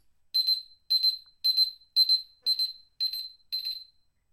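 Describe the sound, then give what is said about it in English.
A timer goes off with seven evenly spaced, high-pitched electronic beeps, each short burst ringing at the same bright tone with steady rhythm and no talking. “And just in time for the timer.”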